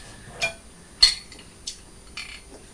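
A knife scrapes across cold, crunchy toast in four short, rasping strokes at an uneven pace, each a bright, gritty burst with quiet pauses between and no talking.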